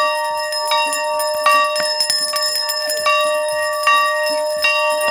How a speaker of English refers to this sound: stands in the middle of the courtyard at Mobile County Training School, in the center of Africatown, ringing the school's bell.